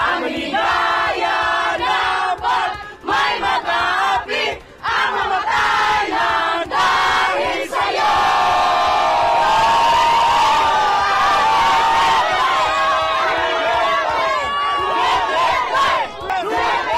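A large crowd, mostly Filipino diaspora, chants Duterte's name in unison outside the detention unit in Scheveningen, The Hague, Netherlands, after the gate closed, voices rising in loud, repeated rhythmic calls, with a sustained swell of cheering and yelling through the middle section.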